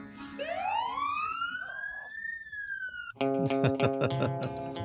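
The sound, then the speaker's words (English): A police siren wails as a police officer pulls up and interrupts a man playing a song live, sweeping upward in pitch and holding for about three seconds before cutting off abruptly as loud, rhythmic music starts. “Sounds like a police officer pulled up.”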